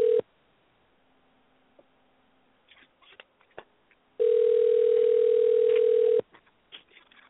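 signal or alarm, telephone dial tone

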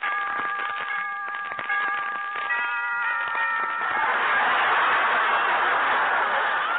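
household object, doorbell ringing

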